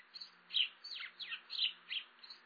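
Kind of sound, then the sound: bird, house sparrows chirping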